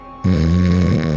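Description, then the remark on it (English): A voice imitates a goblin's fart with a single sustained, low buzzing raspberry lasting about a second, steady and loud, with a slight wobble in pitch near the end. “Little goblin fart pops out.”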